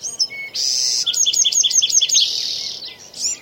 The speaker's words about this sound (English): This is in the middle of the Sequoia National Forest. And what's that sound, you know? Well, we've got some birds. I think we have a few insects in the background.